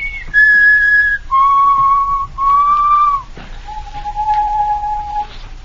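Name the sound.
person whistling a tune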